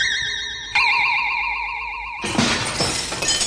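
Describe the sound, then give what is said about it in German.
A magic spell sound effect as a spell is cast to put glass in all the windows: a warbling, wavering synthetic tone that steps up in pitch, then bursts into a bright, glittering shimmer, with no voices. “Ene mene Nachtgespenster. Glas ist jetzt in allen Fenstern. Hex, Hex!”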